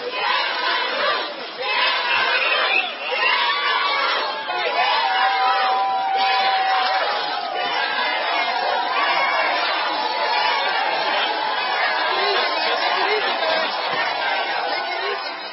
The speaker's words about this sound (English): Yeah, they're screaming, shame on you. And there was a whole bunch of hotel housekeepers, that's what they are, that were outside of the courthouse.